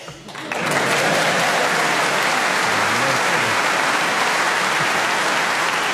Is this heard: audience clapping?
yes